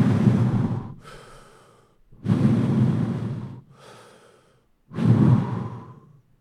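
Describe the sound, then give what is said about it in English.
A voice imitates slow, heavy breathing, the sound of a man breathing that people outside the Holy of Holies would hear as its animal skin inflated and deflated like lungs: three deep, loud inhales each followed by a softer, airy exhale, in an even rhythm with brief pauses between breaths. “And everybody on the outside would hear a man like he was breathing.”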